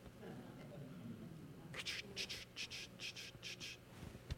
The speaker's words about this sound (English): I always wanted that ringtone on my phone. The one that's crickets.